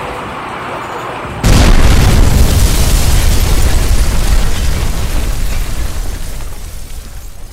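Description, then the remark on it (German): After a moment of quiet background, a single loud explosion erupts with a heavy low boom, followed by a long rumbling roar and debris-like crackle that slowly fades. “Ein Anschlag, Explosionen, der Einmarsch in ein anderes Land.”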